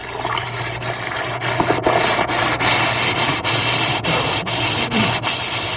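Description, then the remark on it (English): An Alka-Seltzer tablet fizzes in water: a steady, fairly loud crackling hiss with tiny pops throughout, plus a low hum underneath and no voices. “Listen to It Fizz.”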